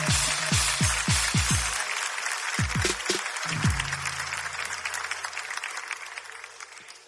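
A crowd applauds steadily for several seconds, a dense wash of clapping with a few deep booming thumps near the start, fading slightly toward the end.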